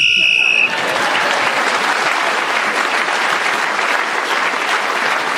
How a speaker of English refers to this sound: Clement Freud was then speaking as the whistle went and gained that extra point.